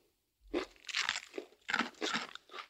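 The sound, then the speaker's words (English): Someone bites into and chews a crisp fortune cookie, producing a series of loud, dry, crackly crunches in an uneven rhythm, with no talking. “Don't eat your fortune cookie.”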